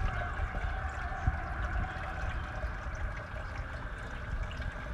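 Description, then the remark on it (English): Steady rushing water from a waterfall pours without a break, a constant, even roar with a brighter hiss layered over a low rumble. No voices, just the continuous wash of falling water. “The waterfalls, the constant crying, the pain, release.”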